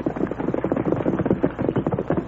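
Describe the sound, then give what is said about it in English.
An approaching horse's hooves clip-clop in a quick, steady rhythm, a dense run of hollow knocking beats at fairly even loudness, with no voices. “Horse come this way now.”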